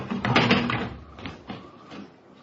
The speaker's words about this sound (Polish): Da, czasem tak podłoga skrzypi.